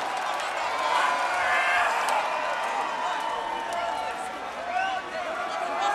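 A large concert audience applauds and cheers a band steadily for several seconds, a loud, dense wash of clapping mixed with shouts and whoops that holds fairly even throughout.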